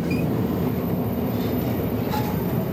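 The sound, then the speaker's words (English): A train runs steadily along snow-covered tracks through snow-covered mountains and hills, slowing toward a stop, with a dense, continuous low rumble and rattle, a few faint metallic squeals rising briefly above it, and no voices. “I'm going to lean out and have a look at the at the platform when we stop.”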